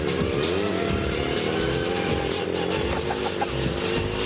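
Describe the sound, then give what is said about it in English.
A small scooter engine runs loud, its buzzing drone revving and shifting in pitch as it pulls away with a team riding it in a race, with no one speaking. “Making a lot of noise. It's making the right sort of sound. It sounds like it's going along.”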